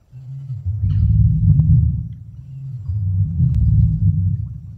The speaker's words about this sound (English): The T-Rex wouldn't have the need to open its mouth, thanks to closed mouth vocalization. This is common amongst birds and reptiles, and the noise would have travelled through vibrations.